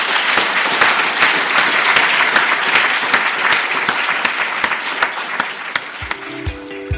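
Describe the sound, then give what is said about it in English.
A room full of people clapping steadily for Sir Richard Feacham, a dense patter of handclaps holding fairly even for several seconds before thinning out, with a low tonal hum appearing at the very end. “And I now ask you to give Sir Richard Feacham a round of applause and then head for the exit.”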